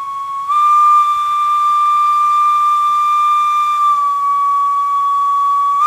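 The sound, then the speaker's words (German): A long, steady steam locomotive whistle, heard from afar, blows for nearly six seconds, a loud, sustained high tone with a slight pitch shift near the end, and no voices. “Und wenn man ganz gut hört, hört man es eben schon von weitem.”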